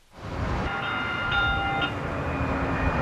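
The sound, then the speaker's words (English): A light rail train rolls steadily along the track with a continuous rumbling drone and faint high metallic squeals from the wheels, fairly loud, with no voices. “Today, we step into a day on the job driving a light rail train.”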